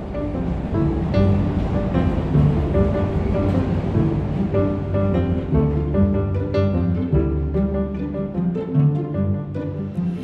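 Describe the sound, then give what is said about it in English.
Steady outdoor construction noise in Chicago in summer: a loud, continuous machinery drone with layered humming tones and a rough low rumble that shifts slightly in pitch, with no voices. “So there is some construction going on right now. It's changing the sound a little bit, but we're outside, so...”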